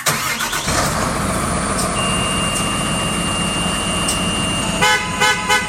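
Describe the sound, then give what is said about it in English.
A 3-in-1 road construction truck's heavy engine rumbles steadily, with a sustained tonal horn-like sound running through most of it and a brief mechanical rattle near the end. “You're going to learn all about the truck you just heard. It's called a 3-in-1 truck.”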